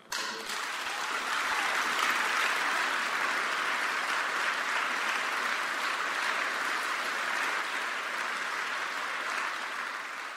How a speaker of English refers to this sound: Here now is the speech by Ralph Nader, One Person Can Make a Difference, Social Justice and World Affairs. Please give a rounding applause to Ralph Nader, our hero.